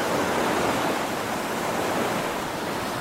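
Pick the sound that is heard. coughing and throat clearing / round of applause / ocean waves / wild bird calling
ocean waves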